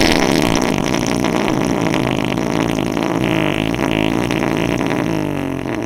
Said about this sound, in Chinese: 所有的臭幼娘都转过了身子，把屁股对准了我们。我们四周都是臭幼娘的大屁股。 姐妹们，让他们感受一下你们的陈年佳酿吧。放屁！